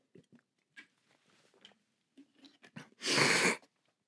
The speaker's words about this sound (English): Let me take a sip of water, and I'm just going to make y'all awkwardly sit there and listen to it.